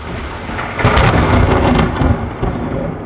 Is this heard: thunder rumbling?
yes